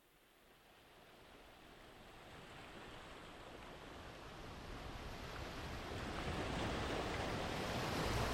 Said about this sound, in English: Imagine yourself at a beach. The waves rolling in, the smell of salt in the air, ships rocking up and down in the harbor, friendly fishermen talking to each other as they do their daily business, and a large icy mountain rising to the back of you.